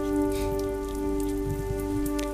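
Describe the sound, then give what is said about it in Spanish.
Steady rain patters down at 2 a.m. on the night of 22 August 1968 at a country house in Tuscany, a dense, continuous hiss with scattered drops over a constant low humming drone. Nobody speaks. “se asoma por la ventana y fuera, bajo la lluvia, hay un niño de 6 años.”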